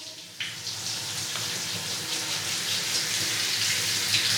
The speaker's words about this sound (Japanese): どうですか？シャワーの温度、熱くはないですか？ ではこのまま洗いやすくなるまでお湯をかけていきます。頭皮もしっかり濡らしておかないといけませんからね。